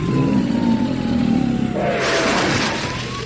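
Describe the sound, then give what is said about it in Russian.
A heavy truck engine, a large white MAZ towing a giant smoking silver tank trailer marked "Flammable" as it crawls slowly along Prospekt Mira, roars and strains with a steady low rumble and a slowly falling whine, swelling into a harsher, noisier roar about two-thirds through. No one speaks. “За ним, шагах в 10, с натужным ревом медленно полз большой белый МАЗ с гигантским дымящимся прицепом в виде серебристой цистерны.”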